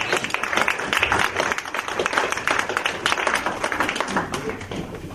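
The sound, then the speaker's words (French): An audience claps for Jesus in a dense, steady burst of applause lasting several seconds, many hands blending into a continuous crackle, with some voices mixed in underneath. “Est-ce que quelqu'un peut donner une main d'acclamation à Jésus?”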